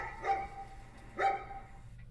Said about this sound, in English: We better get the fuck out of here before those dogs get to me.